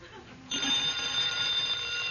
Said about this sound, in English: Answer the phone. Oh, come on, Jerry, you answer it. Dean Martin, I will tell you why I will not answer the phone. Indubitably, that is a call from NBC.